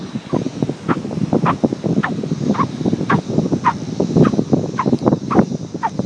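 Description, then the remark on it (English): Soft, fluffy fine sand squeaks underfoot as someone walks along it on a warm, sunny morning of about 30 degrees centigrade, in a steady walking rhythm, roughly a dozen short, shrill squeaks over a constant crunchy scrunch. No one speaks. “And I said, it's all the bits of sand rubbing together that make a squeaky sound.”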